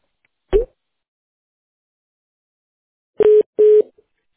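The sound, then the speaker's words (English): A single soft click, then after a pause two short, steady electronic phone tones in quick succession, like a call being placed and ringing a woman's phone. The line is clear, with no voices. “So it must be ringing her.”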